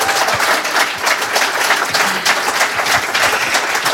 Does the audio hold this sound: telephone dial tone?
no